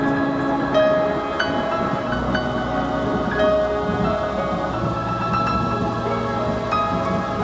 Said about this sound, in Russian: За окном идет дождь, но этот малыш или малышка его никогда не увидят.